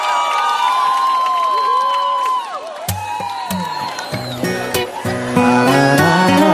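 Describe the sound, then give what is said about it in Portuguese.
A large crowd cheers and shouts loudly and continuously, with whoops and whistle-like cries rising and falling; about halfway through, music with a steady low beat joins under the roar. “Eu quero que vocês façam muito barulho”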